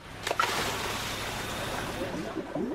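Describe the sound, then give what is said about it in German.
Steady underwater bubbling and gurgling from a scuba diver's breathing in and out, fairly loud, with a burst of bubbles at the start and a continuous rushing wash throughout. “Mal abgesehen vom Ein- und Ausatmen des Tauchers, von dem Geblubber also, das wir selbst produzieren.”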